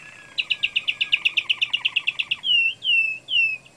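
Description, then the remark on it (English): An American singer canary sings clearly, a rapid trill of about fifteen bright notes followed by three longer, sweeping whistled phrases, with no voices present. “While with the American singer canaries that I've kept in the US, you're allowed a lot more freedom of different song passages.”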